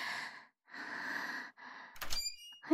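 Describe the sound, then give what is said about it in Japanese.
Several slow, heavy breaths give way to a sudden door clunk with a brief squeak of the latch as a door is opened suddenly without knocking, followed by a short startled gasp. “ちょ、急にドア開けないでよ。びっくりしたでしょ。”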